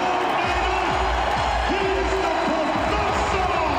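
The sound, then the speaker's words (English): A crowd cheers at a Pistons basketball game, a steady, dense roar lasting the whole stretch, with scattered whoops and rising shouts poking out above the din. “Okay, that's the biggest cheer that you'll hear at a Pistons game.”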